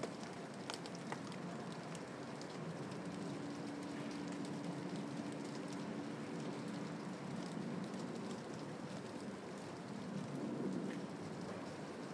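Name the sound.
heavy rain and wind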